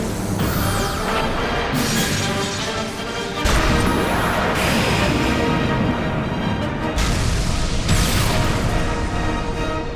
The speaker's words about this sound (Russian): Полковник! Макрос пушка! Огонь!